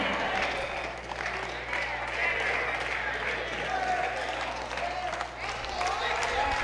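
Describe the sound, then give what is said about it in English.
An audience claps steadily and loudly throughout, a dense, continuous patter of many hands with scattered sharper claps, and voices murmur and call out underneath. “Come on, keep clapping.”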